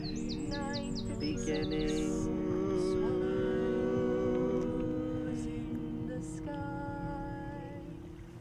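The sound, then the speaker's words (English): Birds sing outdoors, starting with a quick run of high, repeated chirps followed by scattered calls, all over a steady mechanical hum and a low rumble of background noise. “So of course on site here there's a number of birds, that's a very obvious one, but you'll hear other things too.”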